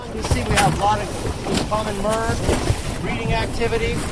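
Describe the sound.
An inflatable boat out on open water at the Farallon Islands, picking up a US Fish and Wildlife Service worker, with steady wind buffeting the microphone and a low rumbling wash throughout, while muffled voices come and go over the noise.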